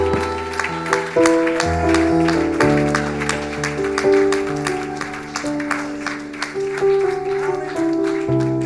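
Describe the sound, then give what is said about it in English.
An audience at a church service claps along to sustained organ or keyboard chords, with many hands producing a steady, rhythmic patter of sharp claps throughout the music. “Can we just clap our hands one more time?”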